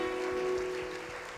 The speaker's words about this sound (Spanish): Déle un aplauso al Señor y un abrazo.